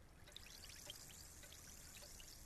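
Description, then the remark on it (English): Water being poured into a glass in a steady, continuous stream with soft trickling and splashing, fairly quiet, lasting throughout with no voices. “I got the water, Tess.”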